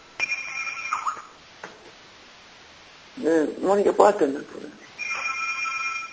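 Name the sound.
phone ringtone ringing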